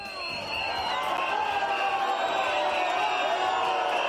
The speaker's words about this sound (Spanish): Ese abucheo, esos pitos